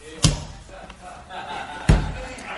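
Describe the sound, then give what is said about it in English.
A judge's gavel slams down twice, two sharp, heavy wooden knocks spaced well apart, each with a short booming thud, over a low murmur of background noise. “Judge drops the hammer.”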